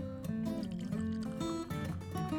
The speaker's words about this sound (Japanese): ねえ、ちょっと私はグラスに入れます。